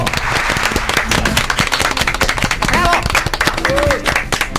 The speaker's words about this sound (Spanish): ¡Fuerte el aplauso!